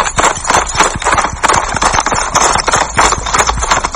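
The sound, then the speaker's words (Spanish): Rapid galloping horse hooves thud in a steady, rolling triple-beat rhythm, loud, continuing for the whole stretch without voices. “Swipe down with 3 fingers when you are ready to calibrate your galloping.”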